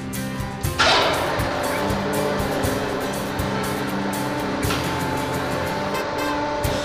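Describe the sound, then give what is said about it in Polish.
A truck's lift raises a person up to a roof to clear icicles, with a steady mechanical whir over a low engine drone, a brief hissing surge near the start, then a constant motorized hum throughout. No voices. “Teraz, ciężarówko, wejdę na podnośnik. Podnieś mnie do góry, dobrze?”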